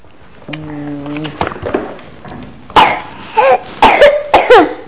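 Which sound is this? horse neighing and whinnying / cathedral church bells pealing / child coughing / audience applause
child coughing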